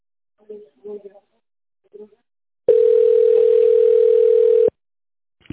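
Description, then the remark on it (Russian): The speaker's own phone rings with a single steady, mid-pitched electronic tone that holds for about two seconds at loud volume, after a few short murmured voice fragments. “У меня просто мой телефон звонит, и я отвечаю нет.”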